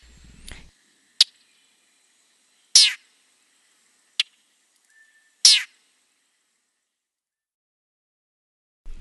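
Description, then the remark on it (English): A handful of short, raspy bird call notes from a chat, five harsh high-pitched bursts spaced irregularly with quiet gaps between, two of them longer and grainier than the others. “Here are the little call notes at the end that get my attention to listen for the raspy sound of the chat.”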